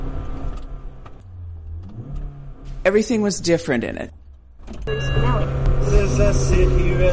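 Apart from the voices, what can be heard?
car engine running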